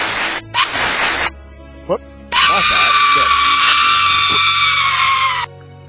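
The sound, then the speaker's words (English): A recording of a boy letting out a shrill, high-pitched scream like a little girl's, lasting about three seconds, loud, after a couple of short noisy bursts and a brief vocal yelp. “asked him to scream like a little girl for me”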